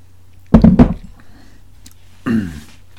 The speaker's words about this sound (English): All right. Now I'll take a sip of coffee.